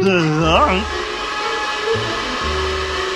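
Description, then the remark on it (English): A vacuum cleaner drones with a steady, hissing motor roar and a low hum throughout, while a voice sounds briefly over the noise near the start. “Distortion and feedback! That's the vacuum cleaner!”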